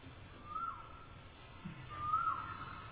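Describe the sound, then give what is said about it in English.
A cuckoo in the Vrindavan forest calls twice, each a clear, rising whistled note about a second and a half apart, the second a little louder, over a low background rumble. “Because the cuckoos were singing in the Vrindavan forest. That's the real one.”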